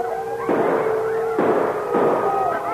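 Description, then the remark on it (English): Three loud gunshot blasts crack out at uneven intervals, scattering a frenzied wolf pack surrounding a man, the wolves howling and snarling in a steady, wavering chorus underneath. “When he heard the shots that scattered the frenzied wolf pack surrounding him, he could hardly believe his ears.”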